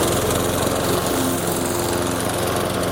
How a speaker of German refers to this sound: Jawohl, Rasenmähen. Also wenn ich den Rasenmäher vornehme, dann geht es aber keine 10 Minuten und dann...